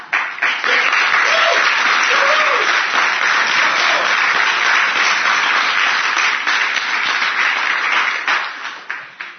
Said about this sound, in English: we're going to have clapping class. It is insulting to these people for that little piddly clap to go on when they get through doing their job over here. Now, I'd like to know if anybody in here is willing to give a demonstration on how to clap.